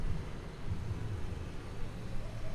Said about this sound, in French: une voiture, un camion qui s'arrête avec la musique rap. à fond dans la bagnole.